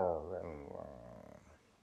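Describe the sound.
A human voice imitates a low, rumbly growl while telling a story, voicing a rabbit grandfather growling at a bear: one sustained rough vocal rumble with harmonic texture that starts loud and slowly fades over about two seconds.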